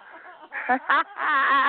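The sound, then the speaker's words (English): A voice imitates a duck quacking, giving about three nasal, squawky quacks in quick succession, the last one drawn out and loud. “And the duck was quacking all the time.”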